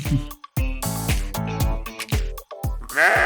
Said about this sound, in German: Und seine Schafe haben auch ihren Senf dazu gegeben.